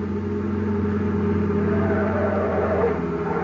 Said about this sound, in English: car coming up that highway now. Yeah, it sure looks like them. Boy, they must be doing 90.